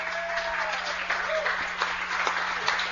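A crowd applauds steadily, a dense wash of clapping hands that holds at an even level throughout without any voices rising above it.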